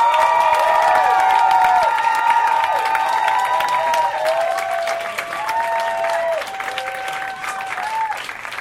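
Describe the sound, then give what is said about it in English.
An audience claps loudly and steadily to vote for their favorite comedy performer, with scattered whoops and cheers rising over the dense patter of hands, the applause holding strong throughout before easing slightly toward the end. “Vote for your favorite with your applause, starting with Josh Gondelman, Real Housewives.”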